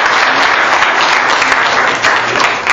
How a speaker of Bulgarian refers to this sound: Аплодисменти за младежа.